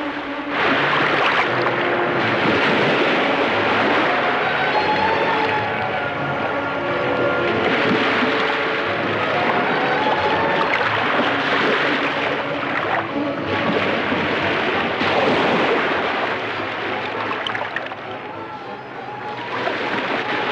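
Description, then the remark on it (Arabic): Heavy, high waves clash, crash and churn on a deep sea in a loud, unbroken roar. Gusting wind blows over it, and the turbulent wash stays strong from start to finish. “أتظنه يستطيع أن يسبح في بحر عميق كهذا؟ أمواجه متلاطمة عالية.”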